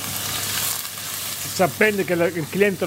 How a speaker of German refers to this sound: schneidet einen Tintenfisch in kleine Scheiben und wirft sie in die heiße Pfanne.